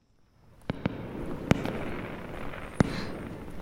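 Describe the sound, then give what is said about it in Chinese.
Fireworks go off in a few sharp, irregularly spaced bangs, about four in all, over a steady low rumble and crackle of further bursts. “哇，你给我准备的惊喜是烟花。”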